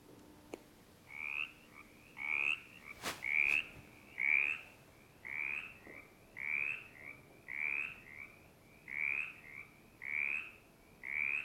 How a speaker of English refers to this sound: Okay, so let's listen to the mountain chorus frog first.